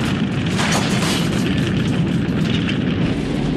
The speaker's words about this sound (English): A ball of fire explodes in the building as the truck approaches the gates.